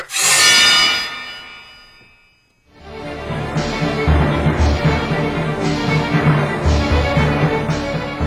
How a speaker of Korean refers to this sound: 동탁은 칼을 빼들었다.